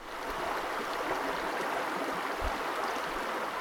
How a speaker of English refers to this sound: That sound of the Smith River at Jack's Creek Covered Bridge in Patrick County, Virginia, opens an episode about fish in schools